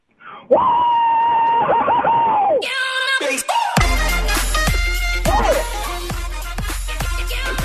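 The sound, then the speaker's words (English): A few voices scream together in loud, sustained excited shrieks, rising and falling, with a muffled thumping rumble underneath, inside a truck as a Mariners baseball game ends with a walk-off. “I had the privilege of being in the truck with them last night when the game ended with the walk-off, and we just screamed together in the car, just having a blast.”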